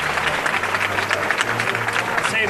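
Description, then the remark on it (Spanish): A crowd breaks into steady applause at a street procession, dense overlapping claps holding at a fairly loud, even level, with a faint low hum and murmur of voices underneath. “Primeros aplausos.”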